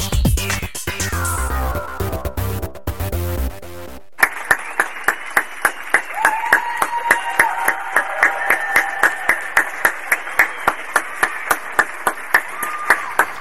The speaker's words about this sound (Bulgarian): Тези аплодисменти са за българските медици, медицински сестри, санитари, въобще лекари, всички медицински работници, които са на първа линия в борбата с тази заплаха, зараза, наистина, която е навсякъде около нас.